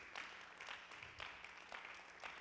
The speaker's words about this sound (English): All right, clap your hands really loud and really hard for about 13 seconds before you're seated.